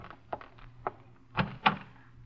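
A front door is handled: a couple of light latch clicks followed by two heavier wooden thunks as it opens, with no voices.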